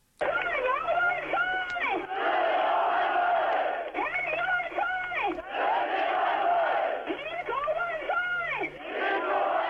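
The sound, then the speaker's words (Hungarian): A large protest crowd demanding democracy at Tiananmen Square in 1989 chants and shouts in loud, rhythmic bursts, many voices rising together in waves with brief dips between phrases, continuous throughout. “A demokráciát követelő tömeg hangjai 1989-ben a Tiananmen téren.”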